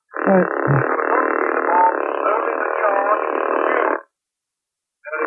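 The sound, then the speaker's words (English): A loud, steady rattling drill, drilling holes for an explosive charge, runs for about four seconds, cuts off abruptly, then starts up again after a second of silence. The buzzing, mechanical noise sounds alone, with no talking. “Get on with your drilling.”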